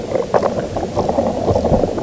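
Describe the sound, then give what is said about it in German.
Dense, continuous crackling and bubbling from gas bubbles moving with the liquid in a tree's water-transport vessels, made audible through amplifying contact microphones, with irregular clicks and pops over a low, steady rumble, no voices. “Das sind vor allem Gasblasen, die sich mit der Flüssigkeit in den Wassertransportgefäßen bewegen.”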